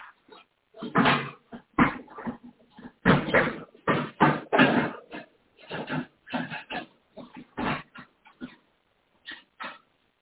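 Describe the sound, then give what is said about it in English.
A dog makes a rapid series of snuffling grunts and snorts in irregular bursts, some loud and some fading, with short pauses between them. “Good dog.”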